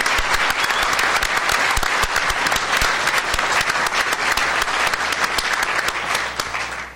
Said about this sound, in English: Let's give President Snyder a round of applause and the Tribal Council.